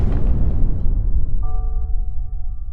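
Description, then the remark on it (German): A huge meteorite crashes from space onto Earth in a massive explosion that bursts out with a loud, crackling blast, then rolls on as a deep, continuous rumble; steady high tones rise over the rumble partway through. “Einmal vor vielen, vielen Jahrhunderten ist ein riesiger Felsbrocken, ein sogenannter Meteorit, aus dem Weltall auf die Erde gekracht. Und es gab eine unglaubliche Explosion.”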